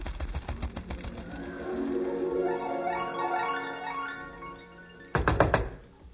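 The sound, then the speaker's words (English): A pigeon coos in a steady, warbling run of rising and falling calls, clear, followed near the end by a short burst of loud knocking. “Hurriedly strapping on a fresh pigeon, I flew out the window.”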